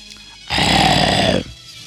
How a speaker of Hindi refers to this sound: इतने में दूर से आवाज सुनाई दी। पीलू बाघ की आवाज थी वो, पीलू बाघ की दहाड़ थी वो।